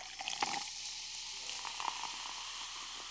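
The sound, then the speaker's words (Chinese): Iced sparkling water is poured, with a steady fizzing hiss of bubbles and a couple of small clinks near the start, quiet and without any voices. “还是冰气泡水吗？”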